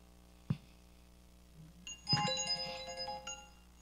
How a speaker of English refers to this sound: My alarm's going off. Should I stop now?